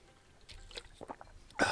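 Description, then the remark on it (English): Someone sips hot coffee at breakfast while recording in a closet: a few soft lip and mouth clicks, then a short, loud slurp at the end. No one speaks. “I'm having some coffee, so hang on, I'm taking a sip.”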